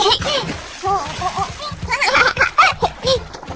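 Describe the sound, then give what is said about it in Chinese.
Water splashes and sloshes as a girl in a swimsuit and arm float rings jumps happily into a swimming pool in summer, splashing water everywhere, with bright, excited children's voices and giggles running over the splashing throughout. “蜜拉换好泳衣，套上手臂游泳圈，扑通一声，开心地跳进池子里。”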